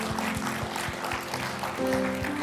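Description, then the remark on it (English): A church audience claps steadily together in praise of God after a prayer: a dense wash of hand clapping over sustained organ-like chords and a regular thumping low beat, fairly loud throughout. “Family, let's give God a great big hand clap of praise.”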